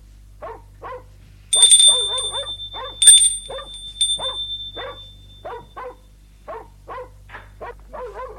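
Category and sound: animal, dog barking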